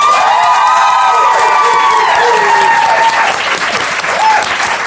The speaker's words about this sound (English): Thank you very much, audience, for joining us. I'm afraid that's the end. Please may you clap and cheer now.